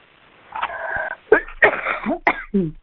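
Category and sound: human body sound, sneeze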